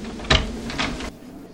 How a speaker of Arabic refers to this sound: هاي هاي هاي باب الدار، سأفتح لك الباب.